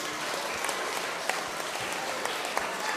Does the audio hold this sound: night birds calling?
no